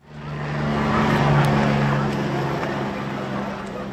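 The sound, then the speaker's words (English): Helicopter rotor blades whir high in the sky over Sao Paulo, Brazil, in a steady, loud drone with a low humming tone, rising quickly at the start and holding constant for the whole stretch. “Helicopter blades rapidly whip around high in the Sao Paulo sky.”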